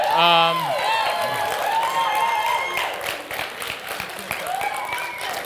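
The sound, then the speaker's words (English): A church audience claps steadily throughout, a dense patter of many hands mixed with whoops and cheering voices, loudest at the start and tapering slightly toward the end. “There's no clapping.”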